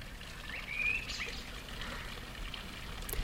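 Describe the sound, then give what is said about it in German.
A steady wash of splashing water from a fountain in the old town of Willisau fills the background while a couple of short, bright bird chirps ring out in the first half, with no one speaking. “Im Altstädtli von Willisau plätschern der Brunnen und zwitschern die Vögel, wie überall.”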